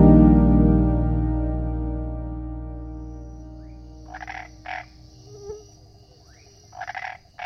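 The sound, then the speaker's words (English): A toad croaks at night on pavement in a few short, raspy bursts, following a sustained low tone that slowly fades away; no voices. “Toad traveling at night. Glistening, Toad plops down on pavement, resting near my feet.”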